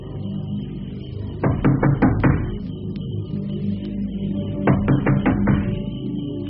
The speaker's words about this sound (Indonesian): Siapa itu yang mengetuk-ngetuk pintu?